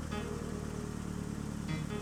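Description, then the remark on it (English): An old car engine runs steadily as the car sets off for a ride, a continuous low mechanical rumble with a rough, throbbing hum and a slight rise in pitch near the end, with no voices. “Come, let's go for a ride in my brand new old car.”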